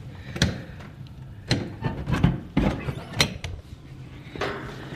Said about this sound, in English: I'm going to open the outside door and see what it's like outside.